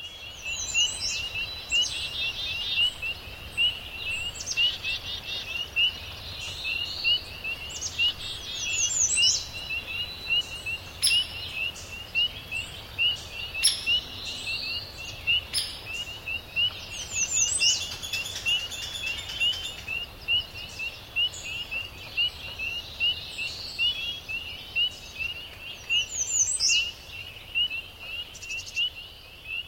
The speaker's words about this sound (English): Behind us right here, early dawn, this is in the Adirondacks, soundscape of peepers and insects, birds, woodpecker comes in.